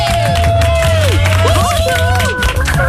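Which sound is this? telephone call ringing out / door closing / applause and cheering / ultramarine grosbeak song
applause and cheering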